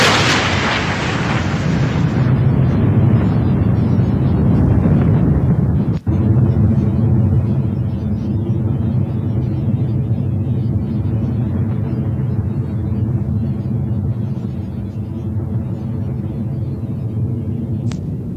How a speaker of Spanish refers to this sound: Se los voy a poner al final una vez más, no para asustarlos otra vez con el trueno